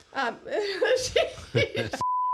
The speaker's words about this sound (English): Beep beep.